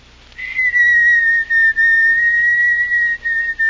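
A person whistles a waltz tune, a sustained, steady melody, the clear tone holding long notes with brief breaks between phrases, and no one speaks.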